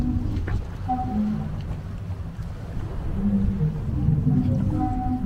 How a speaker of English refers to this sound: You can probably hear the organ sounds at the moment. And this is the Sea Organ that was done by a particular architect whose name escapes me. But quite remarkable, folks. The waves are literally playing a tune for you, which is amazing.